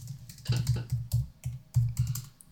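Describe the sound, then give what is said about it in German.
Rapid typing on a computer keyboard while someone googles something, a busy run of clicky keystrokes in uneven bursts with short pauses, fairly quiet and with no one talking. “Muss das gerade mal googeln.”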